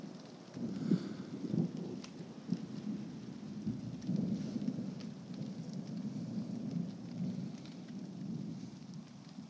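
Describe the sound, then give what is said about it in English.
A low, rolling rumble of thunder swells and lingers over a street while heavy rain begins to pour after a hot 35-degree day, a steady hiss of drops spattering across surfaces. No voices are heard. “A flash in the street outside. And I just had to come out and hear the thunder.”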